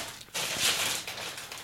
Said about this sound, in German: Ich mach die Tüte jetzt auf.